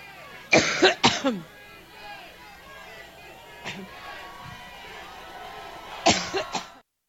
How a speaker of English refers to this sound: Now, that was a clip that was about a minute and 7 seconds long, but that coughing spell literally went on about 4 minutes, over 4 minutes of her, Hillary Clinton I'm talking about, being unable to gather herself and come back and continue her speech